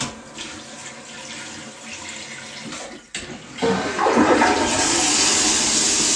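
toilet flushing

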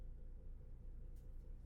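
bus pulling away

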